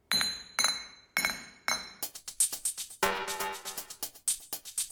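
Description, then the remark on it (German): Glasses clink together in a toast, four ringing taps followed by a quicker flurry of overlapping clinks, bright, with no voices. “Na dann, Prost!”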